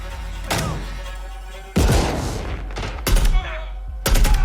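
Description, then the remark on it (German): Loud video game gunshots crack out in separated bursts, including one heavier booming blast with a rumbling tail as a red barrel explodes when shot, against a steady low background hum. “Ihr habt bestimmt bei euch auch im Flur rote Container rumstehen, die in die Luft fliegen, wenn man drauf schießt.”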